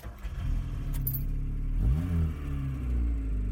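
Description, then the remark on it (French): A Peugeot 104 car engine idles with a low rumble, then revs up once in a rising surge before settling back to a steady hum; a brief jingle of keys comes near the start. “Papa avait acheté une Peugeot 104. Il en était très fier.”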